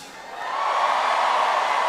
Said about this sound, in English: Don't cheer, don't cheer. You need to learn some Spanish.